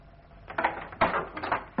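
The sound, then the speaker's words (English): A wooden desk drawer slides open and shut as cuttings are put away in it, giving a few short scraping rumbles and a soft bump at the end, with no one talking. “I must put the cuttings away in this drawer.”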